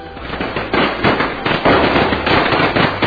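A rapid string of firecrackers exploding, sharp cracks popping in quick irregular succession at steady loudness, continuous throughout with no voices.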